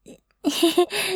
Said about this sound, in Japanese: あ、ごめんなさい、お腹が鳴っちゃう。